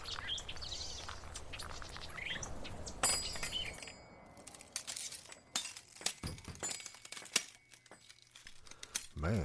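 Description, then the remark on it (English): Broken glass crunches and clinks in a scattered, irregular series of sharp bright transients as shards are stepped on or shifted, with faint background rustling and no clear talking. “Broken glass, but it don't look like a whole lot's been taken.”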